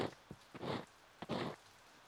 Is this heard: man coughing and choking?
no